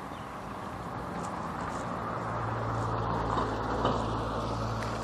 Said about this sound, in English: Car coming, let me cross the street quickly before they get here.